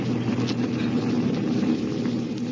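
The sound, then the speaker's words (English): A steady, droning airplane engine of a plane flying 5,000 feet in the air toward Palm Springs hums continuously at an even, fairly loud level, with a low rumbling tone and no breaks or voices. “They're now 5,000 feet in the air headed for Palm Springs.”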